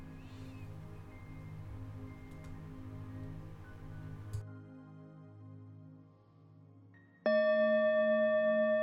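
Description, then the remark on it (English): Soft, droning ambient music fades down, then a single meditation bell is struck to signal the end of a meditation, ringing out loud and clear with a long, shimmering sustain that carries to the end. “Now in a moment, a bell is going to play that signals the end of this meditation.”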